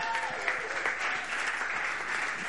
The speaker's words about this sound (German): Wir müssen vielleicht einen mutigen Applaus, oder?